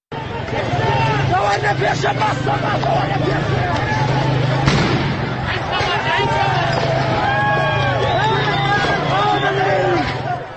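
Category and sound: impact, gunfire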